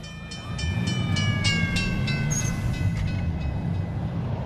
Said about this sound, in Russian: Наконец она попросила меня помочь ей одеться, и мы поехали на трамвае в приемный покой.